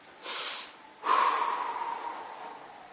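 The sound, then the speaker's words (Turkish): A voice imitates the labored, gasping breath of a dying person in the death throes: a short raspy intake, a pause, then a longer drawn-out rattling inhale that fades slowly, fairly loud with no speech. “Öyle yatıyor. Artık renk, menkis o şey gitmiş. Bir nefes alıyor ki.”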